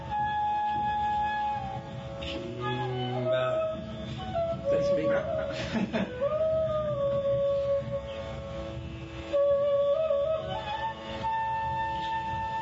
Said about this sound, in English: A tied up cow.